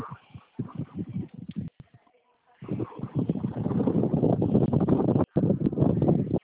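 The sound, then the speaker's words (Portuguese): Rough, blustery wind buffets a phone microphone during a phone call, producing dense low rumbling bursts that drop out briefly and return, heavy throughout. “Aqui a ligação tá um pouquinho baixa por conta do vento.”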